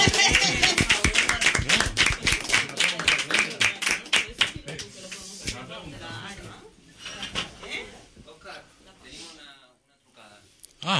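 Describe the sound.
A crowd bursts into loud, dense applause for the person interviewed earlier, many hands clapping rapidly for several seconds before it thins out and fades, leaving people talking and murmuring.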